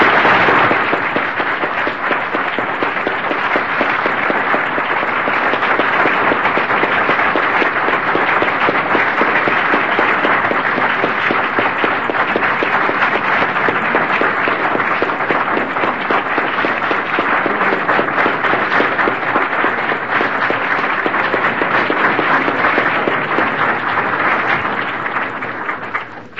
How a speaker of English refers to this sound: And won't you join me in giving them a round of applause?